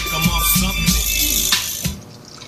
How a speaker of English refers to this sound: It must have been him because, like, I played the pissing sounds loud, right? Let's see. Let's play the pissing. Actually, no, it doesn't. I'm playing it now and it doesn't sound loud.